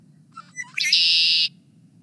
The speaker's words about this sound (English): Many prefer the sounds of their close cousins, the red-winged blackbirds, who also arrive around now.